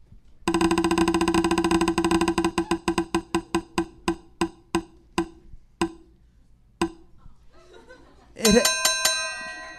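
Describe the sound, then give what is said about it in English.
A spinning wheel clicks rapidly, its ticks slowing and spacing out until it stops and lands on a topic, then a bright, ringing bell chimes loudly three times, its tone lingering as it fades. “Triple bell.”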